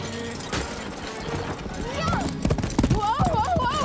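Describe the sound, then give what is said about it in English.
Horse hooves gallop in a quick, uneven clip-clop that grows louder and busier toward the end as a rider races through a forest after a caged wagon, mixed with wordless vocal cries and exclamations over the pounding. “races through the forest after the caged wagon, leaves smacking her in the face as she bounces on the horse's back.”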